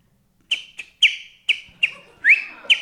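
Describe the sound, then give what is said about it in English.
A person whistles a short, bright tune of about seven clipped notes in a steady rhythm, with one rising glide near the end, clear with no talking. “But I could whistle well like this.”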